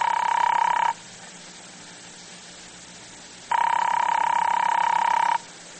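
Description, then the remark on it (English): A telephone ringback tone heard through the line on a call to a private number at an airport: two long, steady buzzing rings separated by a pause of silence, clear and evenly loud, with no one speaking. “Father Barber turns at once to the phone and calls Paul's private number at the airport.”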